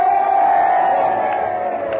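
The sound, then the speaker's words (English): A large crowd in Omaha cheers the nomination of Gracie Allen for President of the United States, a dense sustained wall of voices with occasional whoops rising above it, loud throughout and only slightly easing toward the end. “And now that the cheers are dying down, we're about to hear the acceptance speech of our candidate, the Honorable Gracie Allen.”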